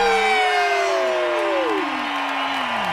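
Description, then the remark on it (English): A small crowd cheers and whoops on a countdown cue for about three seconds, several voices sliding up and down in pitch at once, steady and loud throughout, with no talking. “We're going to cheer in 3, 2, 1.”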